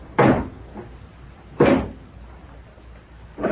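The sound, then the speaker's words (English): Doors of Georges' car shut with two solid, heavy thumps about a second and a half apart, and a third slam begins just as the sound cuts off. No one speaks. “Now, here's the car. Hop in.”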